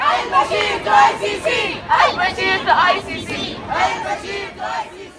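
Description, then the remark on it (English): Hundreds of people from up and down the West Coast chant loudly at a solidarity march for Sudan at San Francisco's Civic Center Plaza, in rhythmic, repeated bursts of many voices shouting together, with a dense wash of crowd noise underneath and brief dips between phrases. “Hundreds of people from up and down the West Coast gathered Saturday at San Francisco's Civic Center Plaza for a solidarity march for Sudan.”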